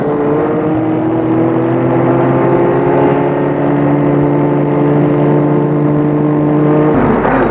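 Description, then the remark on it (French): A car engine hums steadily, its pitch easing gradually lower as the car slows, then the sound shifts abruptly near the end as it stops in front of a hotel entrance. No voices. “Gilbert va arrêter la voiture devant l'entrée de l'hôtel.”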